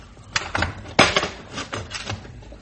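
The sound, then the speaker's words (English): A padlock being unlocked on the plain back door of a steel-lined truck: a handful of metallic clicks and rattles, with one sharp, louder clack partway through. No one speaks. “Now, plain, ordinary door with the padlock. We unlock it.”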